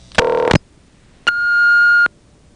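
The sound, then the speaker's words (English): A payphone test number answers, with a coin in the phone, with electronic tones: a short, buzzy multi-pitched burst, a brief pause, then a longer steady high beep, loud and clear with no talking. “When you call this particular number with a coin in the phone, you actually hear the tone that it answers with.”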